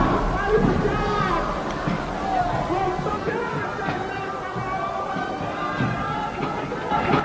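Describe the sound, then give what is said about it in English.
A large labor rally crowd roars and cheers continuously in response to John L. Lewis, a dense wash of shouting voices and babble that stays loud and steady throughout, with some higher calls rising above the mass. “The crowd's going wild because the time is long overdue for this kind of labor organization effort.”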